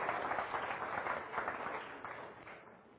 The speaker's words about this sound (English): How about a wonderful round of applause for the last speaker of the day